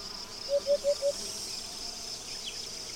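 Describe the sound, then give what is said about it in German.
Crickets chirp on a hot August afternoon on a tree-dotted grassland plain in Cabañeros, in a quick burst of four pulses, then a steady high insect drone carries on, with no voices present. “Dieses Gefühl der Trockenheit wird noch durch die übliche Sommersymphonie des Grillenzirpens unterstrichen.”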